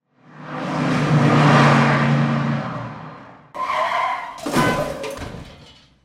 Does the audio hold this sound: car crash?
yes